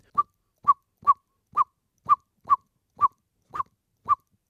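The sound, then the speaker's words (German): Blackbird parents give a mild ground-predator alarm on seeing a cat sitting still far away: nine short, abrupt 'tchook' notes at a mid pitch, repeated at a steady pace about twice a second, with no voices. “Der Bodenfeind Alarmruf in leichter Form.”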